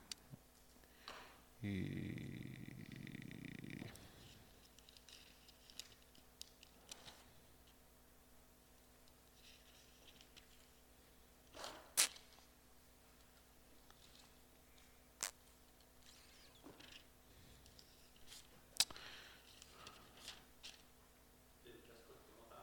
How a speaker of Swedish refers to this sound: Bläddrar och bläddrar och bläddrar.